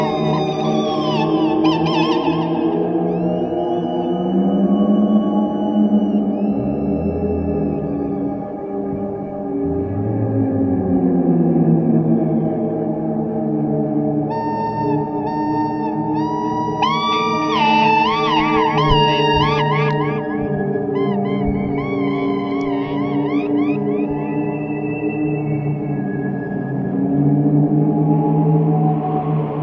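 In an experimental band's piece, a soft, sustained organ drone plays very gently in the background throughout while high, gliding seagull cries break in above it midway, repeating in short wavering bursts. No one speaks.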